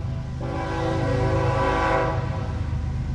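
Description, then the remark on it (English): A train rumbles past on the railroad tracks in Ottumwa, Wapello County, its horn sounding a loud, sustained chord that swells and fades over a couple of seconds above a constant low, heavy rumble. No one speaks. “Along the railroad tracks in Ottumwa, Wapello County Emergency Management Coordinator Josh Stevens says a commodity survey reveals that some tank cars coming through town do carry crude oil.”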